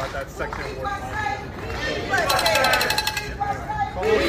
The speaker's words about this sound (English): Let me show you what it looks like right now. It's a little loud. There are a couple hundred people here. It's growing. It's supposed to last for a couple hours.